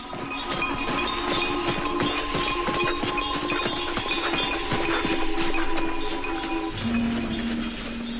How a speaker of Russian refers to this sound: После этого запрягли лошадь в сани, бубенчики зазвенели, полозья заскрипели, и родители уехали.